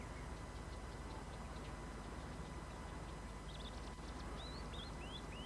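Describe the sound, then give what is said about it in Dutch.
A small bird sings a few thin, rising whistled notes in short phrases, faint over a steady low rumble of background noise, among the grass along the Rhine at Arnhem, with no voices. “Een vogeltje dat zich onbespied waant en gewoon doorzingt of er niets aan de hand is.”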